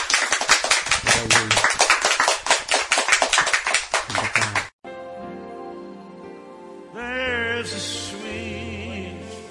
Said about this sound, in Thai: ให้เราตบมือให้พระเจ้าดีไหมครับ